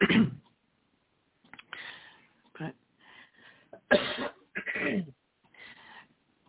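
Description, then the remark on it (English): Someone on a group call clears their throat repeatedly in a string of short, rough bursts with brief pauses between, a little muffled, like over a phone line. “Sorry to keep clearing my throat.”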